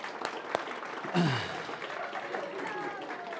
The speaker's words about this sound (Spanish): Bueno, un aplauso por recibir a ellas.